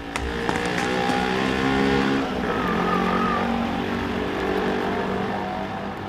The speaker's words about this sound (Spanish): ¡Oh, ahí viene el autobús 168!